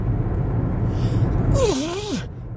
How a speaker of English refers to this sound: Oh shit, I don't know where that sneeze came from.